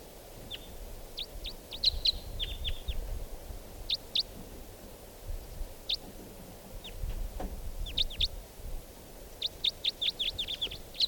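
two wild birds calling

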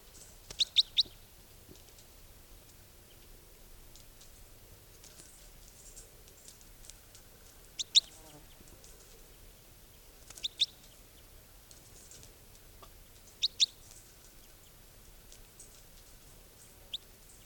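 bird calls

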